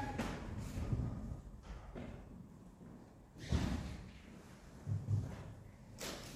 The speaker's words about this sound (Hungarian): Az ajtót csukjuk be, és akkor nem fogja a szél az ablakot. És akkor az ablak maradhat nyitva.